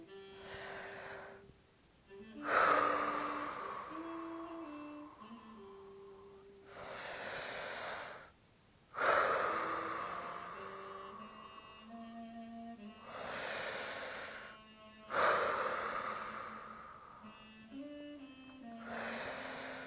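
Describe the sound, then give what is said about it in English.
Slow, deep breaths in and out, taken ten times as an act of faith, each a long airy rush lasting a few seconds, repeating steadily over soft sustained background music with no talking. “Now, go on, breathe in and out deeply 10 times.”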